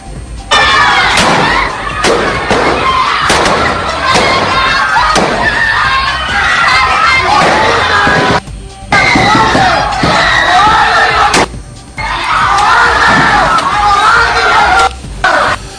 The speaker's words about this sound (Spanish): Aquellos estruendos, esos fragores, corresponden a armas de fuego, no son perdigones ni balas de goma, ¿verdad? Son balas de plomo disparadas bajo la orden de matar.